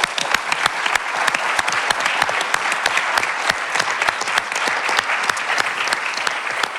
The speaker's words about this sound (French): Mesdames et messieurs, merci d'applaudir